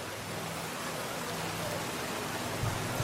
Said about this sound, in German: Draußen der Regen und drinnen eine wohlige Wärme.